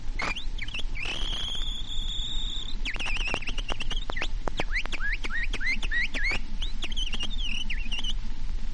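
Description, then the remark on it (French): An imitator of the Casino de Paris whistles an imitation of a nightingale's song: long sustained high notes, then rapid clicking trills and quick chirping phrases, fairly loud over a steady background hiss. “….”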